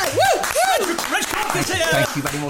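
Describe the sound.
Steady audience applause fills the whole stretch, a dense wash of clapping with rising and falling whoops and shouted voices riding over it.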